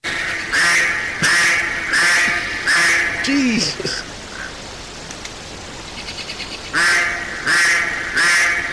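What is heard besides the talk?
ducks quacking loudly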